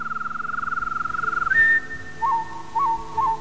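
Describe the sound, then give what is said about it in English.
A man whistles bird calls while playing a guitar: a fast warbling trill, then a long steady high note and a few short, rising chirps, clear, with the guitar faint underneath. “You know, the thing is, he's doing bird calls, and he's playing a guitar to it.”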